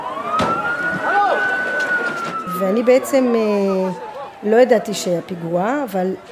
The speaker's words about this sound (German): Aber auf dem Weg zum Hotel sah ich viele Feuerwehrautos, hörte Sirenen. Mir kam das komisch vor und ich wunderte mich, warum es so viel Lärm gab.